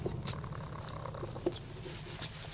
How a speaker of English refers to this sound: Then a slender furry mammal with a bushy tail appears in the doorway and enters the coop. A stone marten.